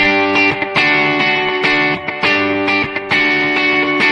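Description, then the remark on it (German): An overdriven electric guitar plays a loud, steady run of picked notes through a simulated Space Echo tape delay with more treble, the repeats smearing each phrase together with a bright, slightly warbling tail. No one speaks. “Ich gehe mal auf ein Space Echo, das hat ein bisschen mehr Höhen.”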